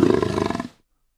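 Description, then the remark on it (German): A single short big-cat roar played from a soundboard triggered on a keyboard, loud, rasping for under a second before cutting off abruptly into silence; no voices. “Das war Tiger, Löwe und Puma.”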